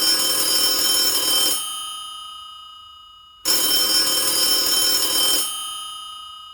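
An old-fashioned mechanical telephone bell on a 1970s telephone rings twice in long, loud bursts, each about one and a half seconds of rapid metallic clanging followed by a ringing decay, separated by a brief silence.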